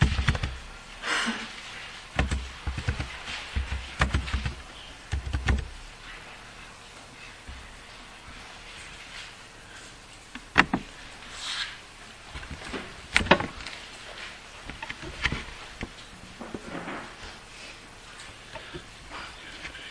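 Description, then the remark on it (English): Irregular clicking and tapping of keys on a computer keyboard as a Bible passage reference is typed in, fairly quiet, with a few sharper, louder clacks scattered through a soft background hum. “You can open up in your Bibles to Joshua 18 as I'm typing this in here.”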